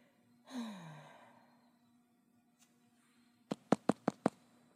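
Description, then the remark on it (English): A long breathy sigh, then after a pause five quick, evenly spaced, sharp knocks on a door, with quiet around them. “Who's at the door?”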